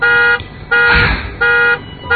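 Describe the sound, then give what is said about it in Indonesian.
A loud car alarm blares in repeating pulses, alternating harsh steady tones with brief noisy bursts, with no voices present; the car's alarm went off by itself with nothing wrong. “Alarm mobilku berbunyi.”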